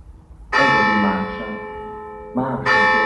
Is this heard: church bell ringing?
yes